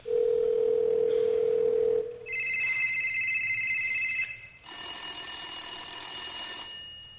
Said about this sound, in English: Things to do at midnight. The phone rings.